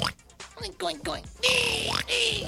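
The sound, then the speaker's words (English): A person vocally imitates a pig, making a quick series of nasal, squealing oinks, ending in two longer, rising squeal-like snorts. “Just being real sweet and cuddly and cute, just oinking around”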